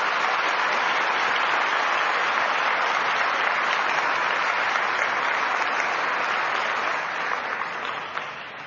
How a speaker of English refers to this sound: And absolutely, I mean, they have enthralled the audience, I am sure. One big round of applause for all of them.